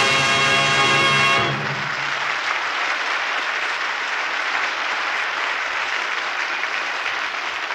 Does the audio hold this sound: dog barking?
no